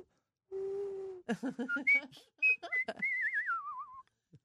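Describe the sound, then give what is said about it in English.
A person whistles a birdlike tune: a held low note, then a quick run of chirpy rising and falling notes, ending in a long warbling trill that slides downward. “You could be a Disney bird.”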